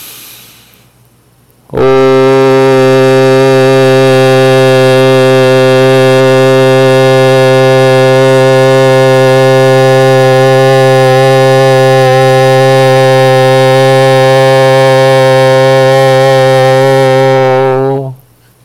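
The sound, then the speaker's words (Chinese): One man's voice holds a long, steady "woo" tone for about sixteen seconds, low-pitched, loud, with rich resonance and no other sounds around it. The tone is sung without the "大花" and is picked up by an iPhone microphone. “我发一声呜，你听看啊，这是没有大花的声音。”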